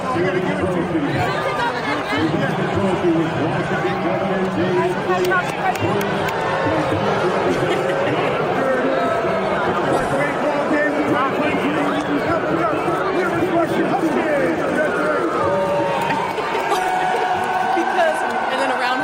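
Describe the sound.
A large stadium crowd at the Apple Cup boos Governor Jay Inslee as he is handed the trophy, a dense, sustained roar that holds steady at high volume for the whole stretch, with many overlapping voices blending into one continuous wall of sound.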